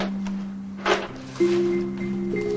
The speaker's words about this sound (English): She puts the basket down and opens a desk drawer.